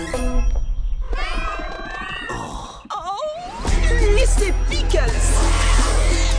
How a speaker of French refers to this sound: Miaou.